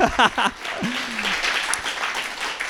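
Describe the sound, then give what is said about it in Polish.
An audience bursts into steady, dense applause lasting a few seconds, the people who have children clapping, many hands at once, with a brief voice and a rising cheer heard at the start over the clapping. “A, ale kto ma dzieci, niech klaszcze!”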